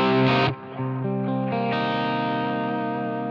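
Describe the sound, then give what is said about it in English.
An electric guitar with Filtertron pickups, on the bridge pickup with volume wide open, runs through a Line 6 HX Stomp with a Marshall Plexi setup with slight crunch, playing a few sustained chords, loud, each ringing out with a lightly overdriven edge and no voices. “I've got a Marshall Plexi set up with just a tiny bit of hair on it.”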